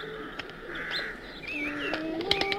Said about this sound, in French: À mesure qu'elle s'approche, les tourterelles blanches sont de plus en plus nombreuses.